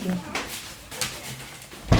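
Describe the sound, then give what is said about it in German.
A few soft rustling, shuffling noises lead up to a door being shut again, ending in a sudden, heavy thud right at the end. “Warte, ich mach mal eben wieder die Tür zu.”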